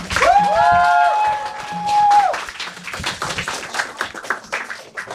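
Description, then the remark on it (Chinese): Steady audience applause welcoming several stand-up comedians onto the stage at a live show recording, a dense wash of many hands clapping for several seconds, with a long high whooping cheer riding over it early on before the clapping carries on alone. “我们掌声欢迎小块儿、海源、粽子以及刘仁成”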